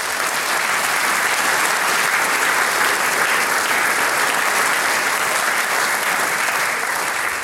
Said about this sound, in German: Also das ist, glaube ich, ein Applaus wert. Bitte.